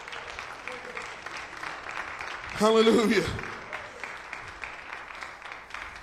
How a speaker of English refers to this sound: Thank you, Jesus. I'm going to give the Lord another hand clap of praise.